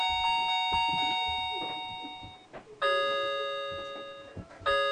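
household object, clock chiming

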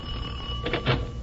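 household object, doorbell ringing

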